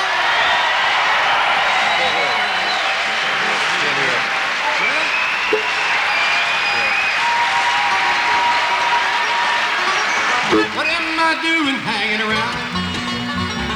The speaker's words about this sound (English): And I'm sure they need no introduction, and as soon as somebody says that, you know they're going to give them one. Let's make some noise now that you're warmed up, ladies and gentlemen,